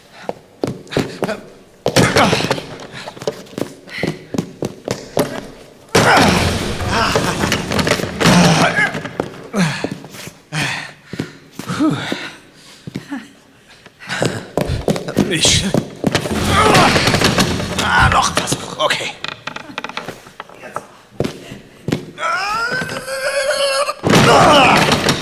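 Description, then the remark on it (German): Loud, heavy bangs strike a door with rusty hinges again and again in irregular bursts as someone tries to force it open to get out, with brief voices in between. “Erstmal müssen wir hier raus. Die Türen angeln sehen rostig aus.”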